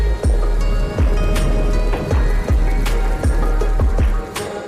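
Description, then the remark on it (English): A steady wash of soft falling rain with a low, rumbling undertone and scattered soft patters, continuous throughout, with no voices. “Soft rain sound effect.”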